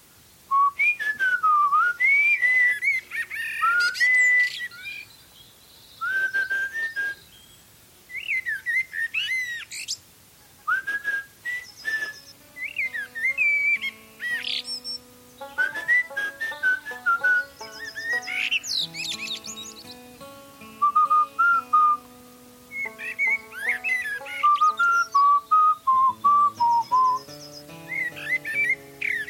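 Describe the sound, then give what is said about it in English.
A blackbird sings clear, fluty whistled phrases in short repeated bursts with brief pauses, fairly loud, in the evening, while softer lower tones hum underneath in the second half. “But our blackbird's still showing off.”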